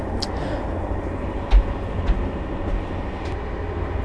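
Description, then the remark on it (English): A passenger train passing through the suburbs (banlieue) of Paris rolls along with a steady, dense low rumble, broken by a few brief knocks and rattles at irregular intervals. No one speaks. “we have to change for a smaller regional train to get to Annemasse”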